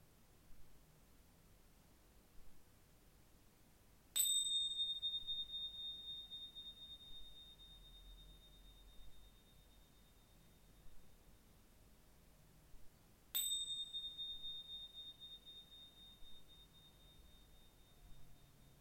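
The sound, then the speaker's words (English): A meditation bell is struck twice at the end of a meditation practice, several seconds apart, each chime ringing out clear and high before slowly fading into a quiet, hushed background. “In a moment, I will ring the bell 3 times just to finish.”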